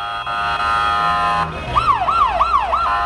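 A loud ambulance siren holds a steady tone, then shifts into four quick rising-and-falling yelps over a low rumble of street traffic, as the ambulance struggles through an intersection where at least one rocket hit moments before.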